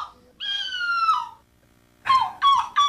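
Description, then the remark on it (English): A person competing in the yearly World Championships of seagull calling in Belgium imitates a seagull: one long, drawn-out squawking cry, a short pause, then three quick, loud, rising gull-like yelps in a row, with no talking. “It's the World Championships of seagull calling.”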